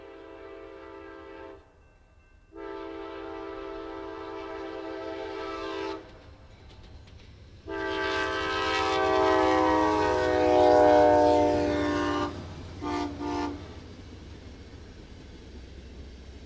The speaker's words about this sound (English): This is, again, a K5LA air horn recorded at McClure Road. Except this is the westbound Illinois Zephyr, train number 383. Recorded at about 6:40 p.m. on the 23rd of November, 2008.